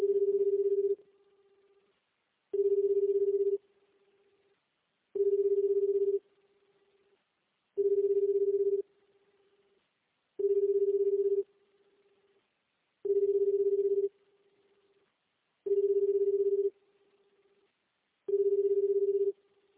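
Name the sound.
telephone ringback tone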